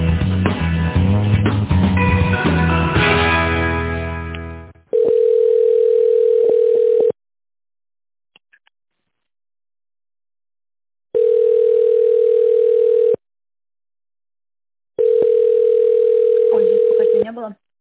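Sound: telephone ringback tone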